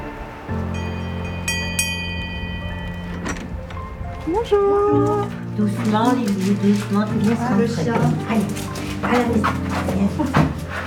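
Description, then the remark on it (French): A dog barks and whimpers in quick, excited bursts over a steady low engine-like hum, the yelps growing busier toward the end. “Ah, le chien.”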